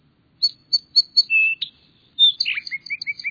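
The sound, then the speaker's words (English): An Altamira oriole sings alone in South Texas: a run of clear, whistled notes, a brief pause, then a second busier phrase of slurred whistles, fairly loud with no talking. “This day in South Texas, however, is considerably shorter, so this Altamira oriole has only 14 hours to sing.”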